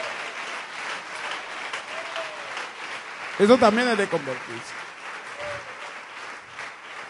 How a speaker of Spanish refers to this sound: Un aplauso fuerte para nuestro Dios.